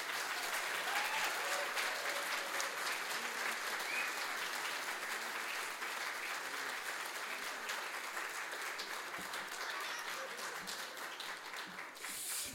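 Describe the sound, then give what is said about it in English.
An audience applauds steadily, welcoming Reverend Dr. Nancy Taylor: a dense, continuous wash of clapping that holds at an even level for about twelve seconds before thinning slightly at the end. “Would you join me one more time with a loud clap welcoming Reverend Dr. Nancy Taylor.”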